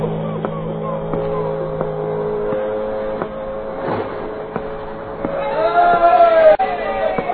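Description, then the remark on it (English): A crowd cheers and shouts steadily as a boat is about to cast off, over a low, constant engine hum, with individual voices rising louder near the end. “All them people cheering.”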